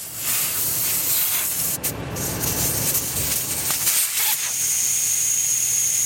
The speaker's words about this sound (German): lässt Luft aus den Reifen seines Geländewagens. Weniger Druck, mehr Auflagefläche. Das ist wichtig bei einer Fahrt durch die Wüste. Sonst sinkt das Auto schneller ein.